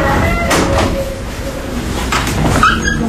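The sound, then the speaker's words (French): A small door of a courthouse swings open with a couple of soft thuds and a brief rising squeak as people enter, over a steady rumble of indoor background noise. “Allez, on monte. On peut contourner, si tu veux. Toujours rentrer par la petite porte.”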